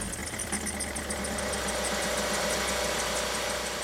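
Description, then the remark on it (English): A small gas-powered compressor engine runs steadily, its rapid, even knocking pulse holding a constant drone throughout with no voices. “So imagine this compressor, right? It's like a small engine.”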